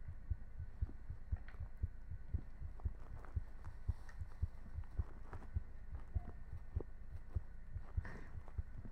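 heartbeat

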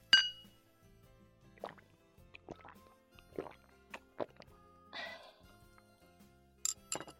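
glasses clinking

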